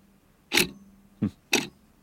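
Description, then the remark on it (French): A clock ticks: three sharp, dry mechanical clicks at slightly uneven intervals, the first one loudest, with a faint low hum between them and no voices. “Et oui, le maître des horloges, the master of the horloge, a encore frappé.”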